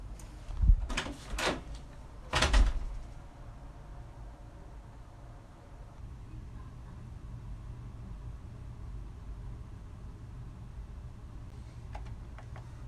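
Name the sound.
door being closed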